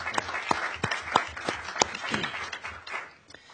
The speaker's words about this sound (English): So I would like to give them a round of applause for the work that they do.